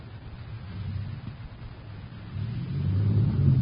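A truck engine idles with a deep, steady low rumble, swelling louder toward the end with no voices present; the truck has backed into a ship, ramming a metal beam through its hull.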